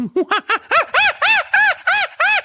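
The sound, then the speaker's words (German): A person imitates a chimpanzee with about ten quick, rhythmic hooting calls that climb in pitch and grow louder and shriller, with no other talking. “Mach mal einen Schimpansen.”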